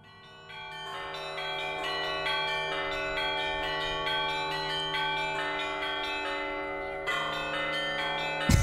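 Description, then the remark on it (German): Church bells ring in a steady, rhythmic pattern, with many overlapping strikes and long sustained tones, fairly loud and continuous, swelling briefly near the end, played by a bell-ringer working the bells with cords; the whole peal lasted 7 minutes. “Das ist ja das Geläut jetzt, also das hat insgesamt 7 Minuten gedauert, aber es wird mehrfach geläutet.”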